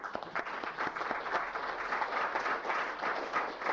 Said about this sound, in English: and he has been very helpful, and I enjoy working with him very much and would like everyone to welcome him with a round of applause.